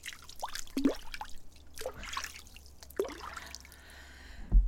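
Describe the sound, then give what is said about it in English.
Quiet sipping of water: a series of soft wet slurps and drip-like clicks spaced irregularly, ending with a louder gulp, with no talking. “I'm going to give you some water ASMR”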